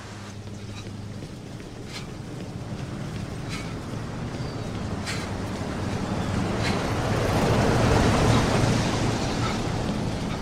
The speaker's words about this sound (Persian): رودخونه آب زیادی داره.